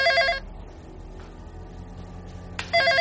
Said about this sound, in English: Who could that be? Darn it, why'd the phone have to ring?